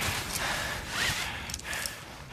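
Heavy, laboured breathing of a mountaineer climbing in the 2015 film Himalaya, with harsh, ragged gasps coming close together over a steady rushing background like wind.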